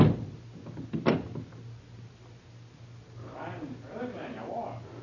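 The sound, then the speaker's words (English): A door is handled with a few dull knocks and a sharp metallic click as it is locked, followed by faint murmuring voices in the background. “I lock the door.”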